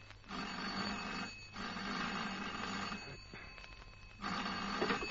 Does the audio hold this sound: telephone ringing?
yes